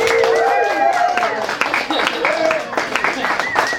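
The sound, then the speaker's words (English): An audience at an internet marketing panel claps steadily with sharp, dense hand claps, mixed with rising and falling shouts and cheers from several voices throughout. “Can we like clap or something?”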